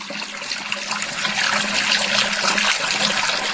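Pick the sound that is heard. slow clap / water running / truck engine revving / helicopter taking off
water running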